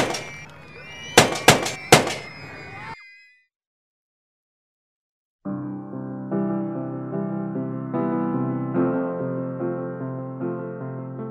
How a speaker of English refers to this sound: Those five gunshots echoed around the world and have continued to reverberate throughout time.